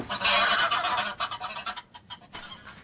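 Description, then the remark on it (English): A goose honks loudly and frantically in a rapid burst of harsh, overlapping cries as it is grabbed, tapering into choppier squawks as it struggles. “I did what she said, Mr. Holmes, and carried the bird off to my place in Kilburn”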